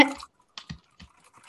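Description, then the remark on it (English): Soft, muted keyboard taps on a quiet hand-me-down keyboard, typed during a recording: a brief cluster of clicks, then a few scattered, irregular keystrokes, dull and low in volume, with nothing else heard between them. “keyboard is a hand-me-down, and I have it out because it's really quiet, so I can type while we're recording”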